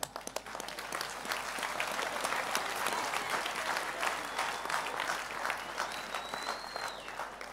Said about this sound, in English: The way you're clapping hands.